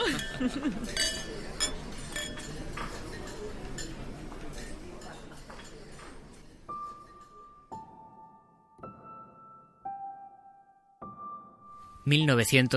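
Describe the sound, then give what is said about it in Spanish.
Glasses clink together in a toast to a planned first concerto for guitar and orchestra, a cluster of clear ringing chimes following a stretch of busy clatter and murmuring voices, each bright tone lingering before the next. “Pues otro brindis por el que será el primer concierto para guitarra y orquesta.”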